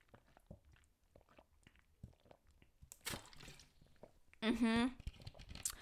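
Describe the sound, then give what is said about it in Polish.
Someone takes sips of peach-flavored water: soft wet mouth clicks and swallows, a short rush of slurping around the middle, then a brief voiced sigh of satisfaction after drinking. “wezmę sobie łyczka wody, przepraszam bardzo, jak będę za głośno piła.”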